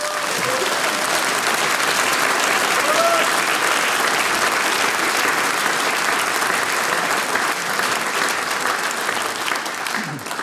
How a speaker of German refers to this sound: das ist euer Applaus. Vielen herzlichen Dank.